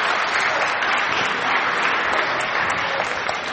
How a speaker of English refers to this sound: But we had an equally fantastic day yesterday. We had loads of fun, and we think we've made about 600 boxes, which is absolutely brilliant. So, little clap for that.